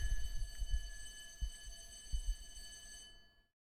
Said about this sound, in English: There's a fire alarm here at Lotus Eaters headquarters. At 8:08, we usually get warning of that, and it's usually mid-morning. Hope it's not a real fire. Well, it won't be. It'll still be going off.